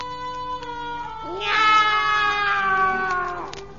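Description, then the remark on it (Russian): Cats meowing and caterwauling: a long, wavering yowl joined partway through by a second, higher drawn-out cry, loud, with no talking. “Этого еще не хватало соседских кошек звать.”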